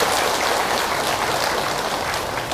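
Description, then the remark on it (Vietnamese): A crowd at an outdoor Buddhist Dharma gathering on a cold day applauds loudly and steadily, a dense crackle of many hands clapping at once that holds for a few seconds without pause and with no voices. “Vì cho một tràng vỗ tay thật lớn về tinh thần.”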